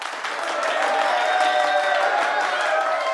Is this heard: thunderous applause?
yes